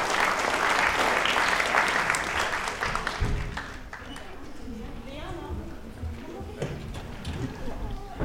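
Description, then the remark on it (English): A burst of dense audience applause for a winning team as they go and sit back down fills the first few seconds, then tapers off into scattered claps as voices and murmuring carry on underneath. “Give them a round of applause as they go and sit back down.”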